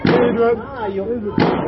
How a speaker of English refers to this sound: That is a gunshot. As we are speaking, there are bullets going off down the road and shouting. Police are saturating the area.